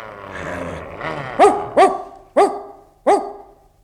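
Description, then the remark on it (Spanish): A dog barks four times in quick, uneven succession, loud, after a brief low growl-like rumble at the start, as it runs to the henhouses to stop a crow and a hawk from eating the chicks; no one speaks. “El perro corrió hasta los gallineros en el preciso momento en que el cuervo y el gavilán trataban de comerse a los pollitos.”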